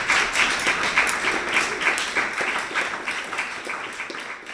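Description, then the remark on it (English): An audience applauds the musicians after the adjudication of an instrumental solo brass class, many hands clapping in a dense, even wash of sound that holds strong throughout and tapers slightly at the end, with no voices over it. “So can we give them all, please, a big round of applause?”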